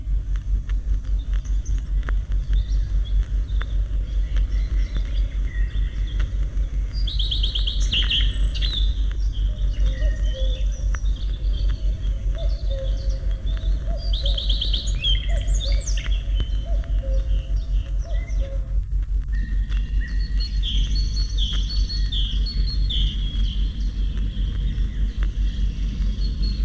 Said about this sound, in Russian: Это песня садовой горехвостки. Она любит селиться по соседству с человеком. Ее легко узнать по красной окраске хвоста и рыжей с черным манишке.